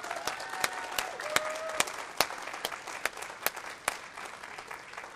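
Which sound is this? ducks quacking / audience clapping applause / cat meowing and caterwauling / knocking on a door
audience clapping applause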